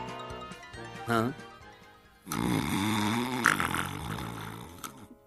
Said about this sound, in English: Snoring? Hey, you in there, wake up.